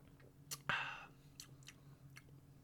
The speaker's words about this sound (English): Okay, hang on. I have to take a second sip of this.